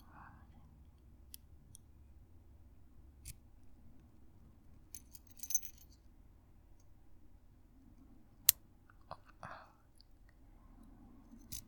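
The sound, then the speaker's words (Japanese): Keys jingle faintly and a lock gives a few sharp metallic clicks as something is unlocked to be taken off, sparse, spread over several seconds against a low, steady background rumble. “この鍵ずっと欲しかったんだもんねじゃあこっちかな。”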